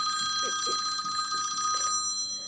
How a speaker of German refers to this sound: In diesem Moment klingelte Felix' Handy.